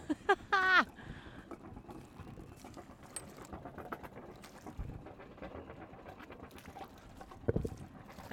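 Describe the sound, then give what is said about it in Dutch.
A boat engine, running again after the winter, idles with a steady, rough rumble while its water pump sends cooling water splashing and trickling out continuously. A brief high, wavering tone cuts in right at the start. “Hij doet het, de motor heeft de winter overleefd. En de waterpomp doet het dus gewoon.”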